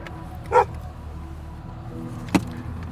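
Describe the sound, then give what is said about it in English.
A dog at a compound with a house and outbuildings barks twice, a sharp bark followed about two seconds later by another short, punchy one, over a low steady background rumble with no talking. “I think he's gonna turn around if he sees his dog barking.”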